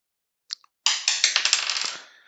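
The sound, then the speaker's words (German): A ten-sided die is picked up with a brief click, then tumbles and clatters across a hard surface in a quick run of rattling bounces that fade as it settles. “Das ist ein W10.”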